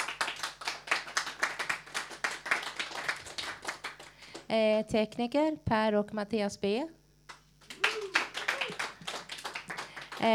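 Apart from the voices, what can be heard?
studio audience applause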